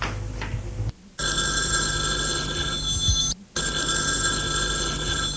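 A telephone bell rings loudly in two long bursts separated by a short pause, with a steady bright metallic tone and no one speaking.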